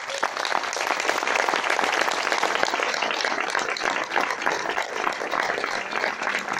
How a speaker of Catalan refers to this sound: Aquí aquest poble, gairebé totes les entitats funcionen perquè al davant hi ha les dones. I els demano un fort aplaudiment per elles.